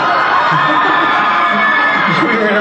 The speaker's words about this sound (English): you're from Albany, huh? Just cheer at anything, that's great.